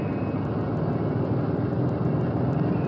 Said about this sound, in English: This is the power of the plane that can fly 10,000 miles and drop 10,000 pounds of bomb halfway and reach an altitude of 45,000 feet, 8.5 miles in the air.